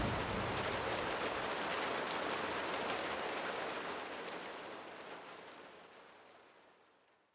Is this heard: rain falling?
yes